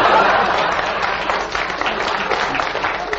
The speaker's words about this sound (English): And if this audience clapped much longer at Derek Nimmo's cracks against me, I'll turn the whole lot out.